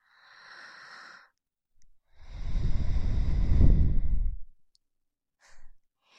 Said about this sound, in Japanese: 吐息が君の首筋に当たる。